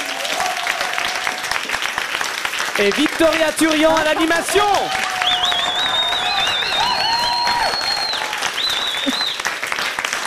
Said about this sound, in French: On peut les applaudir.